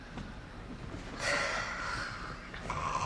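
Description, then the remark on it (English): A man snores in his sleep, lying on his side, with two rough, nasal inhalations, the second starting just as the first fades. No one speaks. “You gonna tell me I was snoring again?”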